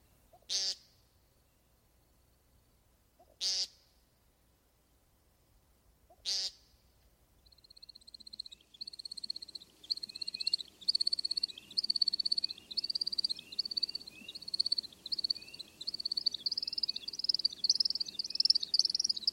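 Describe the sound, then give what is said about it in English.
An American Woodcock gives three short, nasal buzzing calls spaced a few seconds apart, then breaks into a long stretch of high, rapid twittering and chirping over a quiet outdoor background. “American Woodcock.”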